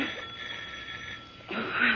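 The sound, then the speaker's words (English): A doorbell at a home rings as Boston Blackie waits at the door, a continuous electric buzzing ring that carries on unbroken, swelling louder and brighter in the final half second, with no voices over it. “You can't answer the doorbell,”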